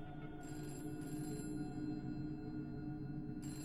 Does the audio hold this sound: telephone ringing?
yes